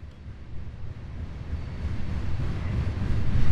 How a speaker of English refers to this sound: This is it's a Union Pacific train. It is a coal train. It is probably going toward the St. Louis area.